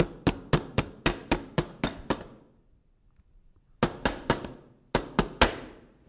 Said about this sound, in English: All right, I'm going to give this a pound on the table so we can get any air bubbles out.